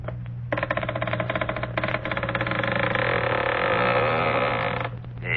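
A long, drawn-out creak of a front door swinging open, a loud groaning squeal that rasps steadily for about four seconds before cutting off, with no talking.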